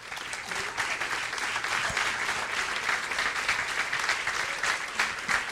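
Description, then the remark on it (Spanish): A crowd applauds steadily to welcome young people from the church, many hands clapping in a dense, even wash of sound that holds at a fairly loud level for several seconds without any talking. “Por favor, recíbanlo con un fuerte aplauso.”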